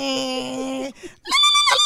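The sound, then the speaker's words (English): A voice imitates the transmission of a 1995 Geo Metro two-door hatchback failing: a steady, buzzing drone for about a second, a brief break, then a loud, higher, strained whine that wavers before cutting off. “That's the transmission messing up.”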